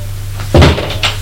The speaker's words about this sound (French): La porte de la cuisine s'est ouverte.